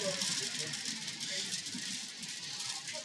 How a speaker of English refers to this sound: What is that? It has to blow pretty hard to hear it in here, that's for sure. Heavy rain with a bit of hail.